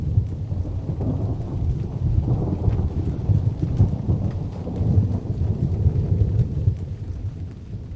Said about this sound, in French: La tempête s'annonce à bâbord.